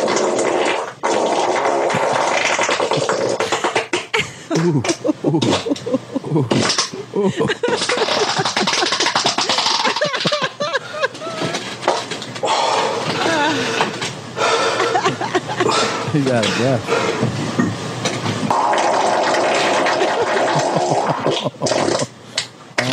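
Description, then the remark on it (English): Loud, drawn-out farting with rough, sputtering blasts and wobbling pitch, repeating almost continuously, mixed with chuckling and some brief speech. “None of you motherfuckers can rip ass like this. I'm farting on you haters.”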